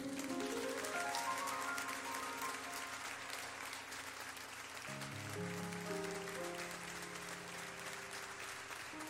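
Steady audience applause at an evening event, welcoming a guest: a dense wash of clapping that holds at an even level throughout, with sustained musical tones playing underneath and shifting midway.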